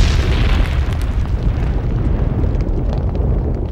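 At night, a loud, rumbling explosion fills the whole stretch, a sustained deep roar with crackling bursts that slowly trails off, overwhelming with no voices.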